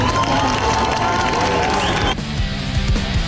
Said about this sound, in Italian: Per cominciare, mandiamo un applauso ai giovani di Amsterdam.